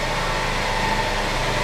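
car engine running

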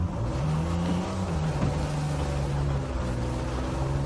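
car engine revving

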